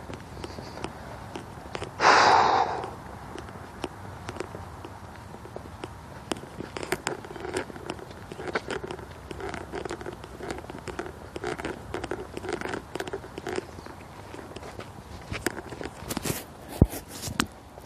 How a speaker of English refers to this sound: Rattling here. My pocket. Rattling in my pocket. Not quite sure what it is. Oh, there it is. Got a hanging earbud banging